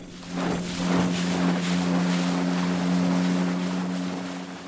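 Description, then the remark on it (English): A motorboat engine drones steadily, its low hum constant throughout, with water rushing and wind buffeting around it, as the boat is steered under a steel bridge into the widest part of a lake; no one speaks. “Then he pulled the motor on and steered us under the steel bridge into the widest part of the lake.”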